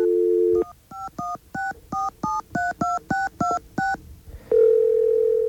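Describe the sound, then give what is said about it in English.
A steady telephone dial tone breaks off into a quick run of about ten touch-tone beeps, evenly paced and clear, before a continuous tone returns at the end, as a voice mailbox number is dialed on air. No voices. “In fact, you know, I guess we can call that on the air and see just what that sounds like, because, can we get a dial tone?”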